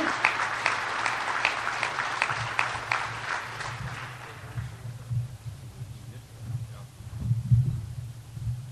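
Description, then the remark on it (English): An audience bursts into loud, dense clapping over the last part of a video being shown, fading out after about four seconds and leaving a steady low hum with a few soft thumps. “Unfortunately, you applauded and you missed the last part of the video.”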